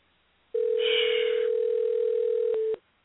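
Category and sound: signal or alarm, telephone line tone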